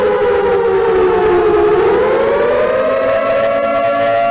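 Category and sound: signal or alarm, alarm siren sounding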